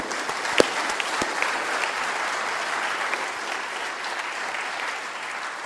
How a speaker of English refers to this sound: And we're very proud of them and pleased with them at how they've done today. So join with me in again showing our appreciation with a big round of applause. Well done, young people.